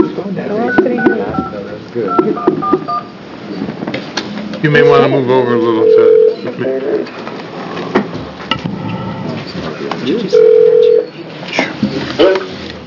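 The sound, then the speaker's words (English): A few short electronic keypad tones beep as a phone number is dialed to call in a witness at a House Committee on Health Care hearing, heard in brief bursts over people talking. “Why don't you guys come up while we listen to the phone call?”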